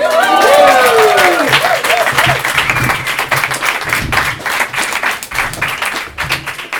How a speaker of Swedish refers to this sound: Hon är vice ordförande för Röda Korsets högskola och hon är framförallt förbundsordförande för RFSU. En stor applåd för Kristina Ljungro!